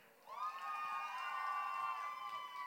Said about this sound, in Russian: Больше криков! Я не слышу. Так, давайте сделаем так. Девочки все похлопали!